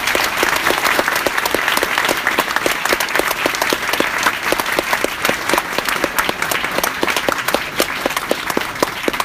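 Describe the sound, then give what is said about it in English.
Sustained audience applause fills the room, a dense, steady wash of many hands clapping at once, loud throughout with no voices rising above it, given as a final round of applause at the close of an evening event. “Please join me in a final round of applause for this amazing.”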